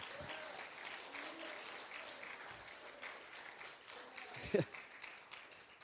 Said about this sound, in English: If you believe like I do, then I want you to clap your hands and praise him. Just praise him.